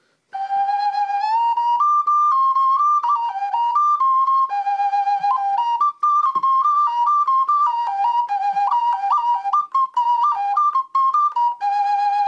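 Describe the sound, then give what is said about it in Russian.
A three-note folk whistle, tuned to a triad chord and with two holes, plays a bright, high, continuous melody of many stepping notes for about twelve seconds, a tune meant to imitate a cuckoo. It is loud and steady, with no talking over it. “Это была кукушка.”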